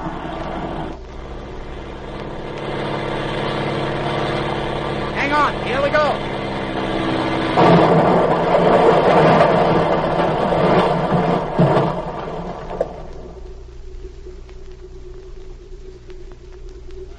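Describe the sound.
An airplane engine drones steadily with a low, buzzing hum, swelling louder midway as it comes in to land, then dropping to a quieter idle. A few short spoken words are heard over it.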